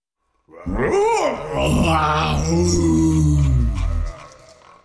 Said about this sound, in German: Plötzlich flog eine Tür am anderen Ende des Dachbodens auf. Ein ungeheuer lautes Brüllen fegte Carla zu Boden.